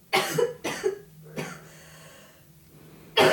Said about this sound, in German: Wir haben hier eine kleine Patientin auf dem Sofa liegen. Nein, alles huste gut. Mal ab. Huste mal richtig ab. Kommt was mit? Ist es grün oder gelb?